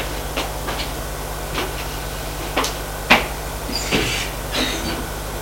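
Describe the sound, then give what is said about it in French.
An office door in a silent house opens and shuts as someone enters: a series of short handle clicks and knocks, ending in a firmer latch thud, over a faint steady hum, with no one talking. “C'est une porte de bureau. Ferme la porte et entre.”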